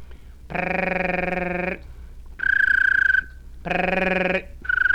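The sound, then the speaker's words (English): A voice imitates a little bird's trill with a buzzy, rapidly fluttering voiced tongue trill, made by hitting the tongue against the roof of the mouth while sounding the voice, in two bursts of about a second each, alternating with higher, thinner whistled trills. No talking. “That's hitting the tongue against the roof of the mouth and making the voice sound.”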